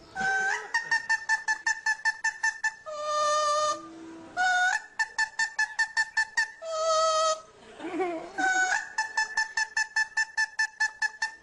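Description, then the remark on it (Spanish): A parrot sings an opera-like tune, rapid bursts of short staccato notes broken by a few long, held tones, loud with no talking over it. “Sí, pero estos son loros que, de verdad.”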